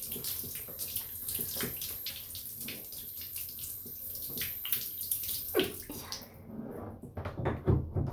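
shower water running

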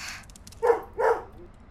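dog barking

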